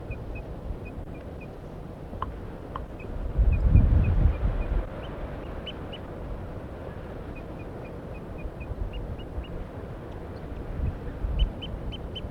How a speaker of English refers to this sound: Pointed at the wild bird now. He's up in the pine tree. The decoys are just giving soft alarm calls, and so is the wild bird, now tooping. Very soft toops and alarms.